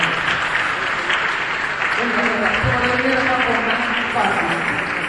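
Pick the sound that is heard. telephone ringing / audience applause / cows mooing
audience applause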